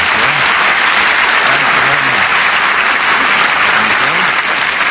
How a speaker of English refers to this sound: Say, that applause had a lot of life to it. Did you sense it as I walked on?